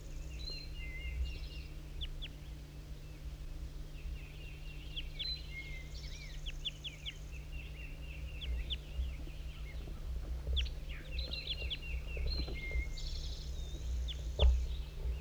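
Wild birds call throughout, a busy mix of short chirps, trills and thin whistles from several directions, layered over a constant low mechanical hum and rumble.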